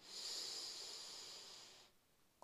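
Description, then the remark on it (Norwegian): A long, steady breath drawn in through the nose during a breathing exercise, a soft airy hiss lasting about two seconds before stopping, with no talking over it. “Ja, då börjar vi med att puste. Gott, in med näsa.”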